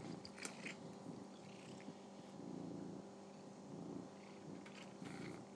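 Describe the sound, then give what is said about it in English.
A cat purrs steadily while eating crunchy cat treat biscuits, a low continuous rumble with faint rhythmic pulses, accompanied by occasional soft crunching or chewing clicks. “Purring whilst he's doing it.”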